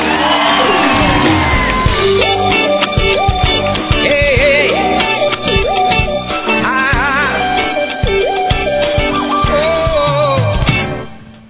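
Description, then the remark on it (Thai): A large crowd cheers loudly and continuously, with shrill whoops and shouts rising over the roar for about eleven seconds before it fades out at the end. “ใครปรบมือขอให้มีความสุขครับถ้าใครส่งเสียงด้วยขอให้รวยมากขึ้น”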